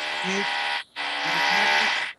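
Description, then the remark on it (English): Loud drilling with a steady, high-pitched buzzing whine, broken by one brief pause before running again. No one speaks over it. “Sorry, that drilling here. We hear some drilling.”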